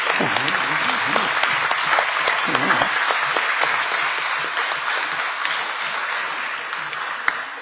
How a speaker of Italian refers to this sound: per questa vittoria e per il nome di Ladispoli che lui ha portato in tutta Europa, e già sappiamo che sarà impegnato il prossimo anno in Finlandia per i campionati mondiali, quindi non so che dire, facciamo un applauso a questo signore.